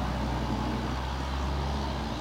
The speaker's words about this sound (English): The number 7 is the vintage line. Okay. And it's wonderful because if you, well, you know the tram, but it's very noisy. And with the old noises, because the new one have different noises. Yeah. No, it sounds beautiful.